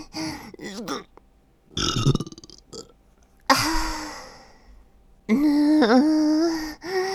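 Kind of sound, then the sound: human body sound, burp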